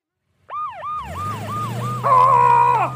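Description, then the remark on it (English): A fire truck siren wails in quick rising-and-falling sweeps, about five in a row, over a rumbling engine, then shifts into a louder, steady blaring tone. No one speaks. “Dolls, let's use the fire truck to drive the mice away.”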